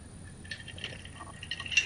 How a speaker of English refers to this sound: That's making all the ice clinking noise.